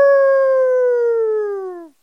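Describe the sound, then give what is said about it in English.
A person imitates a coyote howl with one loud, sustained, voiced tone lasting about two seconds. The pitch sinks slowly, then cuts off abruptly, with no other sounds around it. “That's supposed to be a coyote.”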